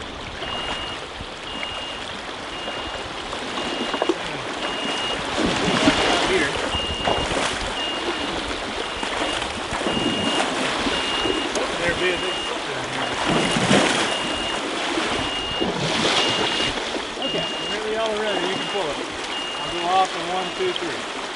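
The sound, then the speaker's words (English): A steady, repeating high electronic beep from electrofishing equipment pulses over continuous splashing and sloshing in flowing stream water during a fish-sampling demonstration on a May 2013 field trip in Virginia, with people wading nearby and faint voices in the background. “Those were sounds from an electrofishing demonstration during a May 2013 Virginia Master Naturalist field trip about fish in streams and rivers.”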